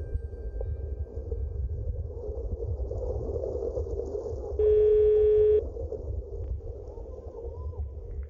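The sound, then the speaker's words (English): A single steady telephone tone sounds for about a second while calling an answering machine, clear and fairly loud, over a constant low rumbling background hum, with no voices present. “I call the answering machine to hear his voice.”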